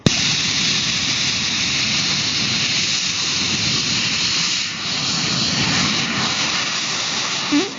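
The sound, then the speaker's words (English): A Rocket Racing League rocket racer engine fires during a night test at Oshkosh in a steady, loud, hissing roar for about three seconds, then ends with a short, low burp-like pop as it cuts off. No one speaks. “All my portable equipment here at Oshkosh is a little overwhelmed by the sound level, but the funny little burp at the end is exactly how it sounds in person.”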